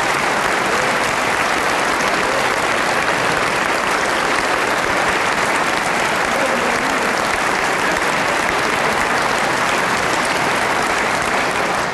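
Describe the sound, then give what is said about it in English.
A large audience stands and applauds loudly and steadily, a dense wash of many hands clapping at once that holds its level for about twelve seconds with no voices on top. “I'll tell them you stood and clapped and searched for them”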